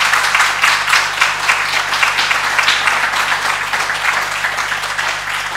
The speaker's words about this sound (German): Also danke nochmal, jetzt gebt mal einen richtigen Applaus an alle, die mitgeholfen haben.